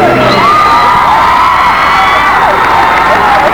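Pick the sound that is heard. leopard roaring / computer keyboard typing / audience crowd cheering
audience crowd cheering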